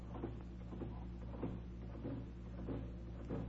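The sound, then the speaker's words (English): A mechanical pump drones steadily with a low hum, punctuated by regular chugging pulses about twice a second, moderately loud with no voices, pumping the air out of an airtight room with no doors or windows. “You hear that, little one? You hear that? Pumping, pumping, pumping.”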